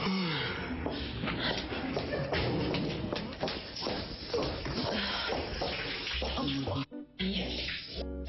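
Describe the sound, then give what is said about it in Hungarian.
Water runs steadily and loudly from a shower, a dense splashing rush with a brief break near the end. “Itt van víz. Van víz?”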